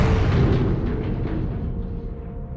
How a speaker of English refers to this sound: a tremendous explosion, and they see this rising cloud of dust about a mile away across the valley.